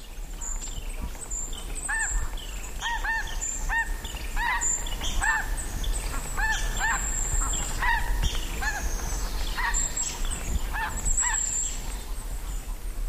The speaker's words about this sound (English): In the following recording, geese are coming overhead and forest birds are busy below.